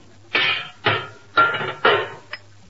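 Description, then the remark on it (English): A hammer bangs on a metal motor as someone tries to tune it up: four loud, evenly spaced clangs that each ring out briefly, followed by a lighter fifth tap. No voices are heard. “There can't be but one way to tune up a motor. Hand me that hammer.”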